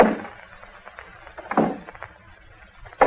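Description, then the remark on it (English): A few slow, heavy footsteps on a wooden porch, spaced unevenly with quiet pauses between them and a faint scuff or two in the gaps. “He said he heard steps on the porch.”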